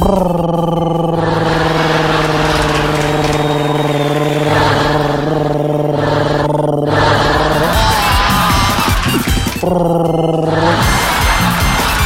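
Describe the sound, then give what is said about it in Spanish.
A person vocally imitates a heavy truck's air brakes and engine, a loud sustained droning hum that rises into a rough, hissing burst, then resumes the drone, with no actual vehicle present. “Más ruidoso que los camiones y sus frenos de aire.”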